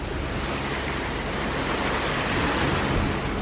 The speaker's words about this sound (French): Là, on est à bord du Columbus, un bateau de l'ONG Sea Shepherd, et on va se rendre au large de Hyères, dans le Var, vers le fort de Brégançon, la résidence présidentielle, pour une opération baptisée le Trafalgar des hydrocarbures.